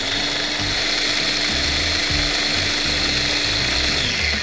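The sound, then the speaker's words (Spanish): A food processor whirs loudly and steadily, its motor holding a constant hum while chopped cauliflower pieces clatter and thump irregularly against the blades as they are ground to a rice-like texture. No one speaks. “Cortamos la coliflor en trozos y la llevamos a la procesadora hasta que quede con textura de arroz.”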